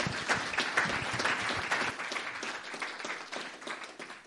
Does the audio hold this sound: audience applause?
yes